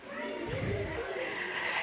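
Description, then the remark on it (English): Children's voices imitate baby frogs as a sound effect, making a steady, breathy, high-pitched croaking that holds fairly loud for nearly two seconds with no pause. “Baby frogs go.”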